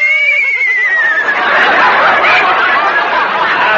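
A loud horse whinny with a high, wavering pitch that slides downward, trailing into a breathy, rough snorting chatter for a few seconds, with no talking.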